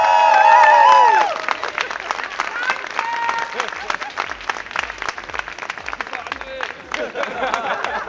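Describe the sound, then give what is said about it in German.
A big round of applause with dense, steady clapping from a crowd at the Antenne Münster Lokalrunde, a radio station event where everything is free today, joined by a few cheers and whoops, running loud and continuous throughout. “Deshalb bitte einmal großer Applaus!”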